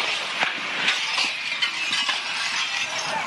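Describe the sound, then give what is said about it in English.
Window glass shattered by a sonic boom, tinkling down in a dense, continuous spray of sharp clinks and cracks for several seconds, loud, with no deep boom audible and no voices. “The actual sonic boom just shattered windows.”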